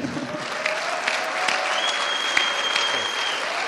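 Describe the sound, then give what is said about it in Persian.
An audience applauds one of the day's guests, a dense patter of many hands clapping at an even loudness throughout, with a faint high tone sustained underneath. “ایشون از مهمانان امروزن و تشویقشون کنیم.”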